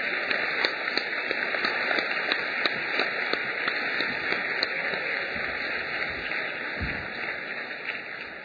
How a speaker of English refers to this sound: May we please have another round of applause for our three exceptional speakers.